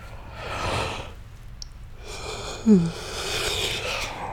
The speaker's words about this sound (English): That yawn means nothing. It does not mean I'm sleepy.